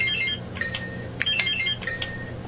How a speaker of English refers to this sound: Yes, all buzzers are working.